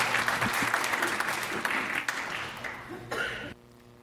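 An audience applauds the final round-one competitor of a competition with dense, steady clapping that holds strong for about three seconds, tapers slightly, then cuts off abruptly, leaving a faint hum.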